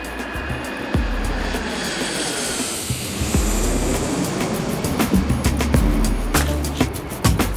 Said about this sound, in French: Léopoldville, 16 mai 1955. L'avion royal de la Sébéna se pose sur le tarmac du principal aéroport du Congo belge.